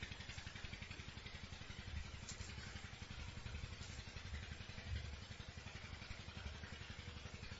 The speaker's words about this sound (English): The next exercise is bring your mind away from the water pump, if it goes there, by directing it to other sounds which are here in the kunja, in the forest grove.